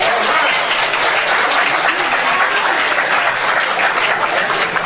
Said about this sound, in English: How many people are willing to go on a cruise? Let's show. This would be a Friday to a Monday cruise. So with an applause, let's see how many people would be willing to do this.